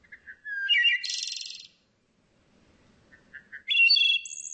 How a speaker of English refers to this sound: This is Bird Note. The fluting song of the wood thrush is an ethereal sound of summer in North America.